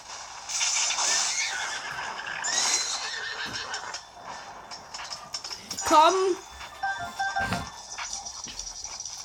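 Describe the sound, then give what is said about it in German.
A horse whinnies with a sharp, wavering neigh that rises and falls, set against a busy background of clattering, rustling game-like noise and some hoof-like clopping. “Dann Pferde.”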